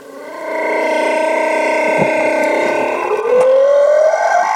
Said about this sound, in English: I think that might have been the mating call of a humpback whale just slowed down a little.